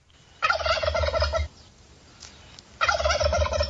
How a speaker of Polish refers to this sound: Jest to ptak, ale nie gołąb. Większy nawet. Indyk. Bardzo dobrze